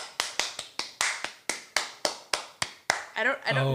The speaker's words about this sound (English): I'll do the applause.